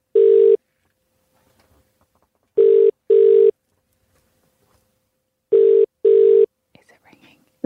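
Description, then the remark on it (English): A telephone ringing tone, a call placed to reach a contest winner, sounds alone as steady, buzzy mid-pitched bursts: one ring, then two double rings separated by silences, followed by faint rustling at the end. “All they have to do at this point is answer the phone.”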